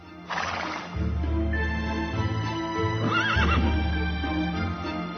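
A mare gives a loud, shrill whinny, then a second wavering neigh a couple of seconds later, both over a steady low rumble with faint hoof-like clopping.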